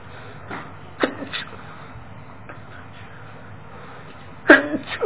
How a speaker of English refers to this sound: Pardon me. And then the forbearance of God. That means it's time for me to quit, so I've got to get through these last three in a hurry. When I sneeze, that means my time's up.